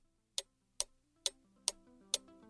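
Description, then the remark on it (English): A clock ticks steadily, six crisp, evenly spaced ticks about half a second apart, distinct, with faint sustained tones humming quietly underneath. “Well, I see by the clock on the wall, there's a dead fly. That means I gotta go.”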